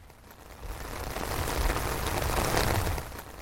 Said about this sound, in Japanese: とその時、朝からどんよりしていた空から雨が降ってきました。